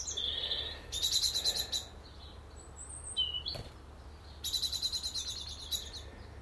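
A blackbird gives loud, rapid chattering alarm calls in two close bursts, with a few thin whistles between them, while chasing another blackbird out of a garden, over quiet outdoor background hum.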